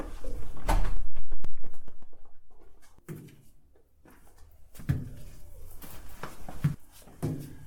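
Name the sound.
front door being opened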